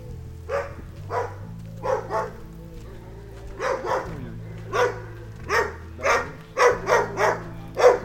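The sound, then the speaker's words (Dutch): A dog at the gate of an animal shelter barks repeatedly in short, sharp bursts, spaced unevenly at first and then coming faster and louder toward the end, while its owner shouts loudly at it, over a steady low droning hum in the background. “Achter de poort staat een man met zijn hond en de man roept heel hard tegen het beest.”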